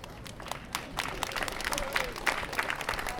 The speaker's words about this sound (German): Ich finde es sehr nett, dass ihr für Veranstaltungsankündigungen klatscht.